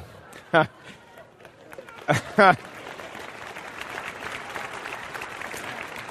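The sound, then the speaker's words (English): A few short, high whooping voices ring out, then an audience in which no men are clapping breaks into dense, steady clapping that swells and keeps going to the end. “I don't see any men clapping.”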